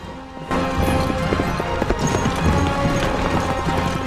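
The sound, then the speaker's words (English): A riderless horse's hooves pound rapidly in a steady galloping rhythm, loud, with dense rumbling motion throughout and no voices. “then moments later, his horse gallops on without him.”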